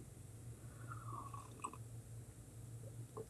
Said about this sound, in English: Okay, let's chew on that for a minute while I have a sip of Java.